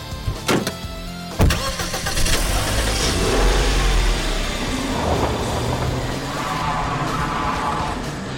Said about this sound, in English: The drag race back to Richmond was chaos. Amid the screech of tires and blasts of horns, the Eden vehicles tore through the city streets.